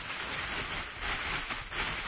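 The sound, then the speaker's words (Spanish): A thin polyethylene T-shirt-style supermarket plastic bag is crinkled and rustled continuously for about two seconds, a dense, bright crackling that stays fairly steady, with a brief dip near the end. No one speaks. “Es una bolsa de plástico de las del supermercado, ¿no? Eso es, una bolsa de plástico modelo camiseta.”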